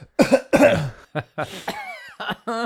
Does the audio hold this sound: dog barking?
no